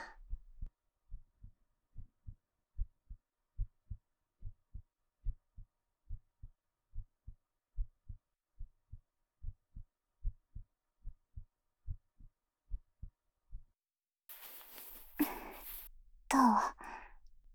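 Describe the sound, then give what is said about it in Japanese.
A steady heartbeat thumps low and muffled at a relaxed, even pace for about fourteen seconds, then gives way to soft breathy sighs and rustling. “そりゃドキドキするでしょ。こんなに近くに君がいるんだよ。ドキドキしないわけないじゃん、バカ。”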